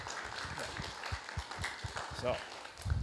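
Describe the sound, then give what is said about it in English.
A church audience applauds the young adults and youth for carrying the worship ministry, a steady, dense crackle of many hands clapping at moderate volume for about three seconds, with faint voices mixed in. “And I just want the church to give the young adults and the youth a round of applause for kind of carrying the worship ministry for this past year.”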